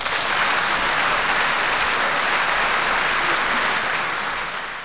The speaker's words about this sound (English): Well, what I'm going to do is I'm going to edit in some big sound of a crowd applauding you after each time you answer a question.